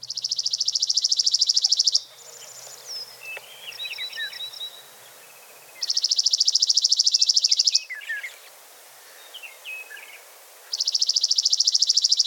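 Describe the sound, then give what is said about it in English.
A chipping sparrow sings three long, dry, mechanical, rapid trills, each about two seconds, loud, with fainter chirps and calls from other birds filling the gaps between them. “Its song is a long, dry trill that we'll listen to here.”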